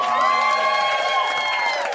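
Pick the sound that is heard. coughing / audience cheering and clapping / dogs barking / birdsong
audience cheering and clapping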